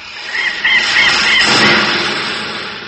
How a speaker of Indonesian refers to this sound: Wah, burung Sri Gunting. Oh, bukan main. Lincah sekali burung itu. Gerakannya cepat laksana kilat. Berkelebat-kelebat, menyambar-nyambar dengan ganas.